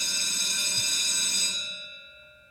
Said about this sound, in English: Well, there it is. As true as the bell rings, every day at Busted Pencils, we have our segment, Democracy in Action, and it couldn't ring more true to the perfect moment for that tonight.